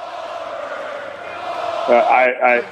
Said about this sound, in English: That's the clip. That was a recording. That crowd is going nuts, chanting Goldberg.